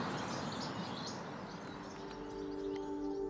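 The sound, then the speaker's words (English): A flock of goldfinches, disturbed while feeding on thistle, scabious and knapweed seeds, rises and circles into the air, keeping up a busy, tinkling chorus of high twittering calls, many birds overlapping continuously over a dense, rustling background. “You will find them this time of year feeding on the seeds of thistle, scabious and knapweed, but when they're disturbed, these charms of goldfinches rise and circle into the air with a tinkling chorus.”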